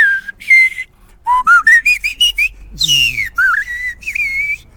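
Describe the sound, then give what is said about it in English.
A person in Wookiee Hole whistles an impression of a blackbird's song: a run of quick rising chirps and fluttering warbles in a high pitch, loud and clear, ending in a few sustained, gently wavering notes. “Let's start off with a blackbird.”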